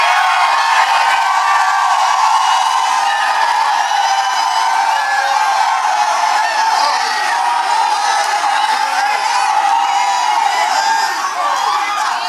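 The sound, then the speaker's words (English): A large audience shouts and cheers at once at an apostle's voice, a loud, dense wall of overlapping voices that continues without a break. Whoops and cries rise out of the roar throughout. “When you shouted at the apostle's voice, you registered for supernatural success everywhere you go from this day forward.”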